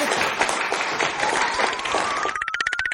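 A burst of applause from a small group, dense, steady clapping that thins near the end into a few distinct, rhythmic claps, with a faint high tone rising underneath.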